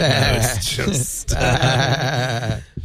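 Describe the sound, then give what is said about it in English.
A person imitates a goat's bleat, a loud, wavering and quavering cry that stretches for a few seconds with a brief break partway through. “Remember, bah means no.”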